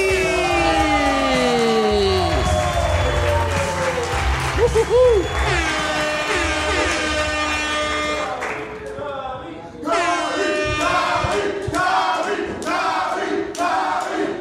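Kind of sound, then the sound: crowd, loud applause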